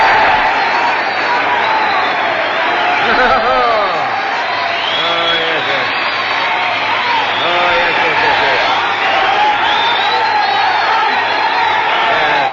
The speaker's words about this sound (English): Now my applause, please.